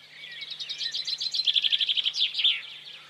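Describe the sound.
A person imitates birdsong with a rapid, warbling series of high chirps and trills, rising and fluttering for about three seconds, clear over a faint steady hum.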